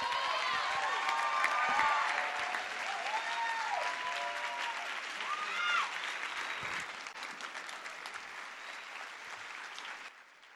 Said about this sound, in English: Give her one more round of applause. One more round of applause.